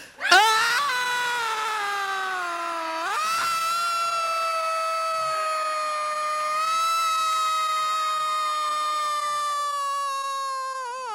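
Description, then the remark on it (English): A group of people scream together on cue after a breathing exercise, in one long, loud, sustained cry; it starts with a rising pitch, then holds steady for about eight seconds with no talking. “Now, all together, we're going to scream like nobody ever screamed before.”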